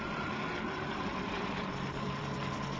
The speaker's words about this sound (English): What? Helicopter. Hey, you're right.